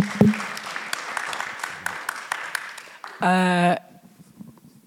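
An audience applauds with steady, dense clapping for about three seconds, followed by a short, loud buzzing tone and then a quieter tail of scattered claps.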